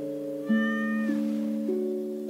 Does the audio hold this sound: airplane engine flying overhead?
no